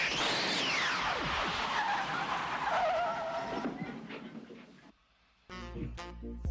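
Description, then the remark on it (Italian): The DeLorean time machine car from the Back to the Future trilogy roars off with loud, screeching tire squeals sweeping up and down for several seconds, then the engine noise fades, a brief near-silence follows, and a new burst of sound cuts in. “Questa scena è emblematica di questa trilogia Ritorno al Futuro, e chiaramente è sempre bello vedere quella macchina partire e svanire chissà dove, nel futuro, nel passato.”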